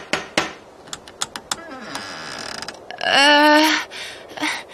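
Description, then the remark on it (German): Two heavy, sharp knocks from a huge door knocker at a castle entrance, followed by a few lighter metallic clacks, then a loud, drawn-out creaking squeal as the door swings open a crack. “Ach nee, es gibt ja diesen riesigen Türklopfer.”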